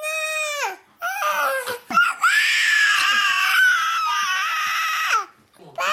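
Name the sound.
baby crying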